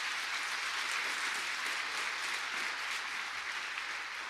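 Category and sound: crowd, audience applauding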